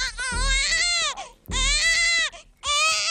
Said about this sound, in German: Babygeschrei wird man in China in Zukunft wahrscheinlich wieder öfter hören.